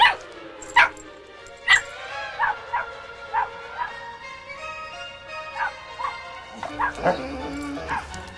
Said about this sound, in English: runs to the kitchen window and barks.